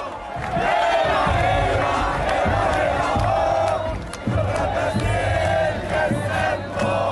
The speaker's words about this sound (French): Alors c'est l'un des slogans les plus repris par la foule qu'on vient d'entendre, une sorte d'hymne de la révolution qui a déjà ses reprises sur la toile internet, c'est assez rigolo de chercher.